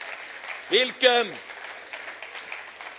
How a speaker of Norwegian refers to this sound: Gi litt spente en god applaus!